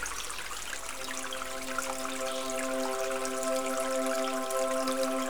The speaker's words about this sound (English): join the path and feel yourself being calmed by the sound of the water. Soon, the river starts turning in a sweeping corner.